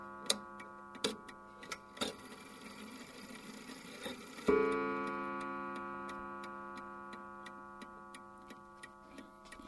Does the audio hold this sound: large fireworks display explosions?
no